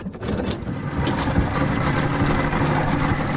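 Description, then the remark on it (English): A boat engine idles steadily, a low, constant rumble with a slight churning texture that holds at an even loudness throughout, with no voices; a family's boat taking visiting players out for a coastal ride to go clamming. “One morning, the Tulloughs took the players on their boat for a ride and a chance to do a classic coastal activity.”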